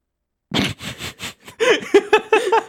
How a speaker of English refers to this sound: And I was like, oh, God. I got attacked by a sniffle. It's me. I'm the sneeze.